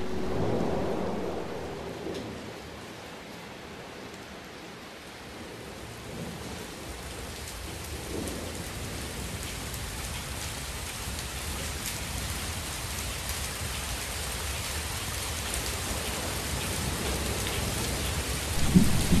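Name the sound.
heavy rain with thunder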